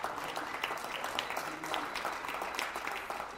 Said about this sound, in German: Mittwochabend, 20 Uhr in der Rue Saint-Bernard, Paris 11. Arrondissement. Wie überall in Frankreich gibt es Applaus für das Pflegepersonal in den Krankenhäusern.